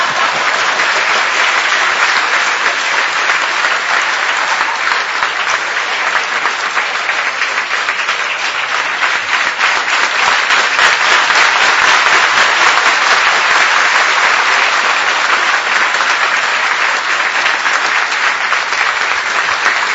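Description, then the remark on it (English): Sustained applause from a sizeable audience at the end of a lecture, a dense, steady wash of many hands clapping at a constant loud level for the full twenty seconds, with no speech. “Clap when I bark, but not when I speak.”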